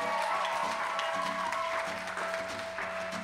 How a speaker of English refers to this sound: And just one more giant round of applause to the Garage for hosting this space.